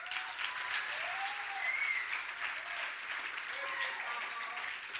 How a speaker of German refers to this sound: Danke, ein Applaus für die Technik.